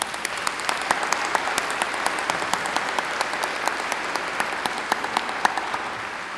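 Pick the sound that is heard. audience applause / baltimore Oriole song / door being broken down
audience applause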